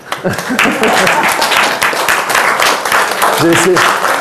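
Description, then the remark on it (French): A crowd applauds loudly and steadily, a dense wash of clapping that fills the whole stretch, with a few voices calling out briefly near the start and again toward the end. “Donc là, vous avez le droit d'applaudir.”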